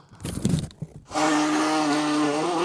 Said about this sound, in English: You sneeze like a cartoon. It's like, like when people normally sneeze, it's like, and you're going to hear some snot come out. You're just like, honk.